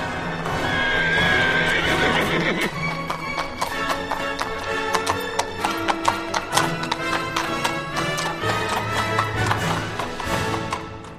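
A horse whinnies loudly at the start, then hooves clip-clop in a steady trotting rhythm, clear, as a rider sets off on horseback, continuing for several seconds with no voices.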